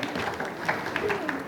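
An audience claps together in a dense, steady patter of many hands, with scattered sharper claps and a few voices mixed in throughout the short burst of applause.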